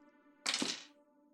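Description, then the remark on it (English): A brief clatter of several dice tumbling onto a hard surface, a quick rattling burst lasting under half a second over a low, steady background hum. No one speaks. “Were those several dice I heard being rolled?”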